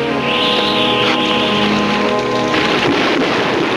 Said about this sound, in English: Rain starts to fall, and they dash to the hotel.